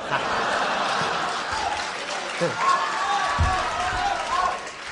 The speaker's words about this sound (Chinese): 您这一上台呀、 啊， 朋友们报以热烈的掌声， 大伙捧你。 哦不，这些个掌声全是给您的。